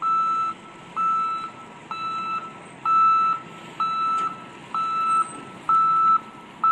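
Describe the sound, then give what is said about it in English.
A truck's reversing safety alarm beeps steadily as the truck backs up, about eight evenly spaced electronic tones repeating roughly once per second over a low engine rumble, fairly loud. “You know that sound that's supposed to provide safety now every time a truck backs up?”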